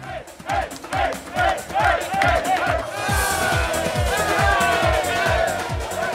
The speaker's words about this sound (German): So klang der Jubel entlang der Strecke auf der BR-Radeltour im vergangenen Jahr.